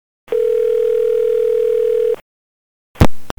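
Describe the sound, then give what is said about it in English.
A steady, unbroken telephone dial tone hums for about two seconds, then cuts off, followed after a short silence by a burst of clicky line noise as a phone call between Condoleezza Rice and Dick Cheney connects. “who were able to deliver this very special phone intercept this very morning between Condoleezza Rice and Dick Cheney.”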